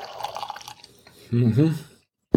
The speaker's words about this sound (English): Pour a little bit more of this wine.